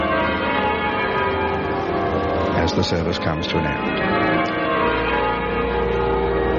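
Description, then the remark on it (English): Half-muffled church bells ring in a steady, dull-edged peal at a funeral service in the cathedral of St. Paul as the casket leaves, while a man speaks briefly over them partway through. “Now you hear the muffled bells”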